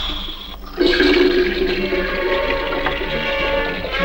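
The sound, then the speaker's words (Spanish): Water gushes from a kitchen tap into a kettle, starting abruptly after a brief moment of quiet and then pouring steadily and loudly with a hollow, resonant filling tone. “Coloca la pava bajo el grifo y el agua sale.”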